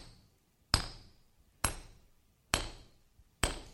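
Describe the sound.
A preacher imitates hammer pounding: four loud, sharp hammer blows land at a slow, steady pace, each with a brief metallic ring that fades before the next strike. No one speaks.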